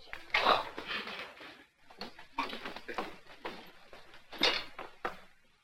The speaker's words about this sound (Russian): Жена соседа открывает дверь.